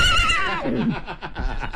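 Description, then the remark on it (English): A person imitates a horse whinny, a loud, quavering neigh that starts high and slides downward, followed by breathy snorting pulses, with no speech. “Give us your horsey.”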